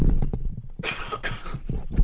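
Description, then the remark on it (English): A person coughs twice in quick succession, fairly loud, with short harsh bursts and a low rumble of background noise around them. “just going to pause for a cough.”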